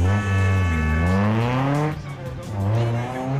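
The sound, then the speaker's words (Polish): Loud racing engines roar past at high speed, their pitch rising and sliding as cars pass, with a brief tire squeal amid the continuous motor noise. The race cars are in the season's first round of the Polish Car Racing Championship at the Tor Poznań circuit in Poznań, Poland. “Pierwsza w tym sezonie, zatem rozpoczęło się samochodowe ściganie na poznańskim torze.”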